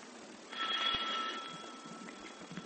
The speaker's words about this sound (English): It is now early next morning, however, and Penny's doorbell rings.